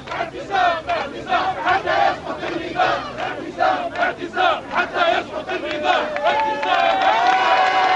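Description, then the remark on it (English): A large crowd of protesters on the street in Tunisia roars and chants in loud, rhythmic bursts of shouting voices as the police leave and the army stays, rising toward the end into sustained high-pitched cheering and whistling. “The army is staying, and people are cheering.”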